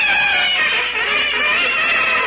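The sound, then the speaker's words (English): A loud, blaring newsreel fanfare for Titanic News played on two trumpets, sounding together in sustained, squawky high notes with no break for the whole stretch and no voices. “Have you built up that new fanfare? Have I? I'm using two trumpets.”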